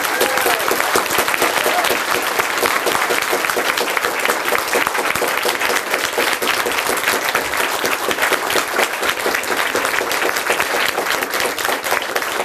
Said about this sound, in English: It's a volunteer team from the Chaos Computer Club. They do a job like it's everything went without any trouble. And I think they deserve a special round of applauding.